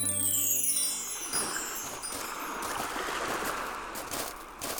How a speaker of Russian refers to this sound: А вон море плещется, красивое такое, переливается на солнышке. Да, это мраморное море.